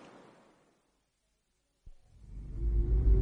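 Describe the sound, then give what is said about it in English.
After a quiet stretch, a dull thump is followed by a car engine's low rumble swelling and revving upward, growing louder, with no voices. “Oh, I should come out driving with you more often”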